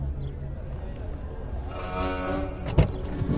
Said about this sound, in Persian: شیشه ماشینو میبنده.